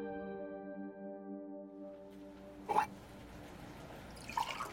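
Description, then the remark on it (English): Coffee is poured quietly into a cup for an executive at the Leading Systems office in Irvine, California, in spring 1989, with a soft steady trickle punctuated by two brief splashy drips, following a sustained tone that fades out at the start. “Karim is at the leading systems office, pouring coffee for one of his most trusted executives”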